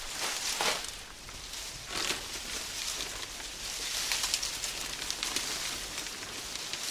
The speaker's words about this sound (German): Hui, der Wind wird immer stärker. Jetzt kommt ein typischer Herbstwind auf.